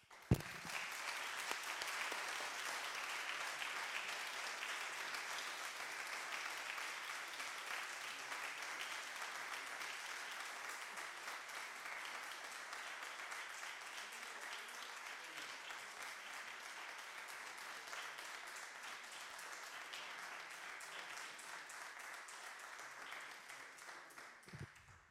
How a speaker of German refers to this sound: aber ich denke, das verdient einen ganz kräftigen Applaus auf der wissenschaftlichen und der organisatorischen Ebene, und dann auch von mir ein Dankeschön.